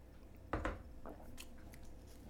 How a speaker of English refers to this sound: Taking a sip of coffee first.